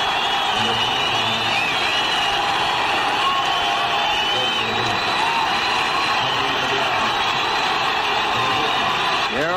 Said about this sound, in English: And the roar you're going to hear will be for number 25, his return to Fenway Park, Tony Canigliaro.